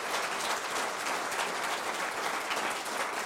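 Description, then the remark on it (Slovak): A crowd at a live program applauds steadily as professor Iveta Radičová is welcomed, a dense, even wash of many hands clapping at a constant moderate level with no voices breaking through. “A do toho potlesku by som to využil a privítal by som pani profesorku Ivetu Radičovú.”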